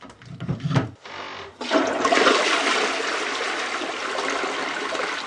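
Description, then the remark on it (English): A newly installed toilet in a small apartment on the edge of Warsaw, Poland, is flushed as a plumber checks his work: a short clunk and splash, then a loud, steady rush of water swirling and refilling the bowl for several seconds. No one speaks. “checks his work after installing a sink, hot water heater, and a toilet in a small apartment on the edge of Warsaw.”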